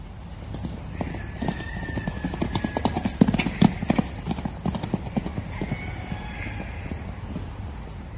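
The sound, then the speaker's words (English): Wild horses in Kaapsehoop clip-clop steadily, their hooves making a quick irregular clatter, while a drawn-out whinny rises faintly in the background. “The thing about Kaapsehoop, apart from the rocks that people say have magic qualities, are the wild horses.”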